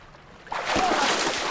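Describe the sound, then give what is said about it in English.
A boat floating on calm water: after a brief near-silent moment, a sudden steady wash of water noise swells up and continues, fairly loud, with no voices. “try to leap up at the side of the boat as it floats on the calm water.”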